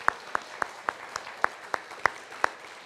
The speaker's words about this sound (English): We can give her a round of applause because she's awesome.